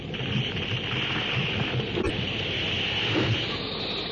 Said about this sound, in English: The deafening crash and roll of thunder combines with the banshee howl of the wind. The convulsion of sound is maddening.